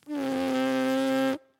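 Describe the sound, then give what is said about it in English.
A horn player's lips buzzing without the horn: a single sustained lip buzz, steady and fairly loud, with a nasal, insect-like drone holding one pitch for just over a second before stopping abruptly. No talking over it. “Can we hear that sound without a horn at your lips? Yeah, so this is the plain buzzing.”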